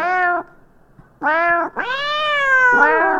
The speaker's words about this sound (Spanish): ¡Gatos!